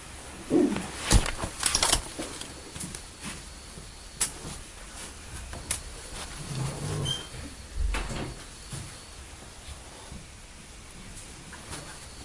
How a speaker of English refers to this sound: can you close the door? The next door. Yes. That one.